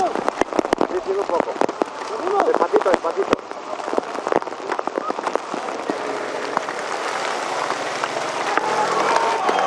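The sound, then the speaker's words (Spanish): Hail pelts down during the suspension of today's stage of the Vuelta cycling race, in a dense, crackling patter, with sharp impacts early on that settle into a steady, loud roar of stones striking hard surfaces, with faint voices in the background. “El sonido del granizo impacta.”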